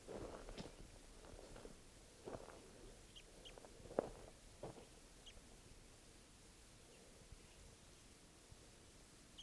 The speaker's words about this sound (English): I'm the wild bird starting to call here.